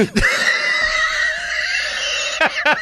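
A horse whinnies loudly, a long quavering neigh with bright harmonic tones held for over two seconds, ending in a couple of shaky snorting bursts.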